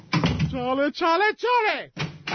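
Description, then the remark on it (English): A door is repeatedly opened and closed: a brief rattling knock, then several drawn-out, rising and falling hinge creaks in quick succession, fairly loud, with a short thud at the end. “What are you doing with the door? Well, please stop opening and closing the door.”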